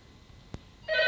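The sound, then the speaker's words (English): A telephone starts ringing loudly near the end, a bright electronic trill cutting in after a single soft click in otherwise quiet surroundings. “Did you know, that phone has non-stop rung.”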